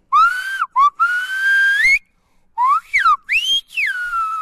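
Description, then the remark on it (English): A human whistler produces Silbo Gomero, a whistled language also called Silbo Canario or canary whistling, from the island of La Gomera in Spain's Canary Islands, in a series of loud, sliding tones that rise and fall in pitch, broken into several phrases with a short pause in the middle. No one speaks. “It's known as Silbo Canario, or canary whistling, found on Spain's Canary Islands in the Atlantic Ocean.”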